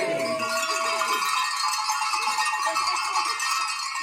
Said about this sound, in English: And members of the Roanoke Arts Commission had a special message this week with help from handmade pottery bells created by Arts Commissioner Becky Carr, who teaches pottery at Vinton Studio 228.